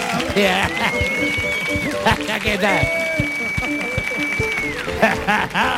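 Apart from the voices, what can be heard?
audience applause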